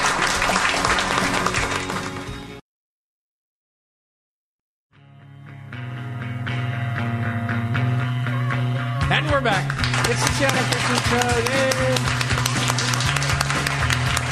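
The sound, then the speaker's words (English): Loud, dense applause on Cairo Radio 97.3 FM, introducing the Baker's Corner segment, breaks off abruptly into about two seconds of silence, then swells back in, with a steady low drone and some voice-like sounds mixed into the clapping. “Vigorous applause.”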